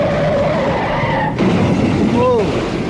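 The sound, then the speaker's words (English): Car tires squeal in a drawn-out skid, then an abrupt thudding impact as the car hits a piano being moved on a bridge, followed by another short screech over a dense, rumbling background. “I got a guy who hit the piano.”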